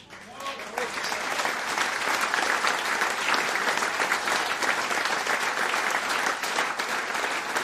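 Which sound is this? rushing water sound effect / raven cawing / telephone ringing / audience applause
audience applause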